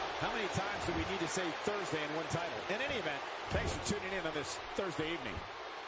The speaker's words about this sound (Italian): Presa intanto al collo, figure for headlock da parte di Robo Fandango, che va poi a trovare delle gomitate ai danni di Ziggler.